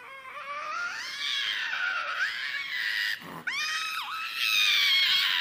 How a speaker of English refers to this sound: A 2-year-old having a temper tantrum? I feel like I've seen that happen before in public. Yeah, this was a local Safeway. Mother of five...